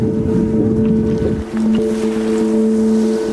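A boat carrying women merchants from a beach village in southern Haiti toward the Dominican border, its steady low droning hum running loud throughout, with faint splashes and wash in the background and no voices.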